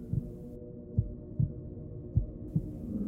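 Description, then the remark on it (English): A mother's heartbeat thumps steadily in the low range, paired double beats repeating about every half second to second, muffled, with a faint hum beneath and no talking. “Listen to your mother's heartbeat.”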